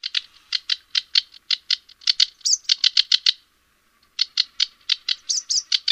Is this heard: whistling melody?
no